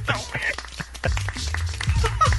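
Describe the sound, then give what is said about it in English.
A small, sparse round of applause, just a few pairs of hands clapping steadily and politely for a couple of seconds, with some low murmuring voices underneath. “It's a small applause sustained.”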